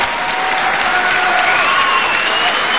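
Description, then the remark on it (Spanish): A live audience of the show La Venganza Será Terrible in San Nicolás, Buenos Aires Province, claps steadily and loudly for San Nicolás, a dense wash of many hands without pause, with faint crowd noise mixed in. “Sí, pueden aplaudir a San Nicolás si quieren.”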